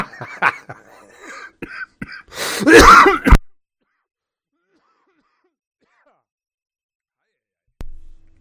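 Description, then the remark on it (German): A short coughing fit: a few quick, rough coughs build into one loud, harsh burst, followed by several seconds of silence. “Oh, sorry, kurzer Hustanfall.”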